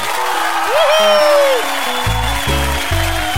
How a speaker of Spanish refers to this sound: Un aplauso.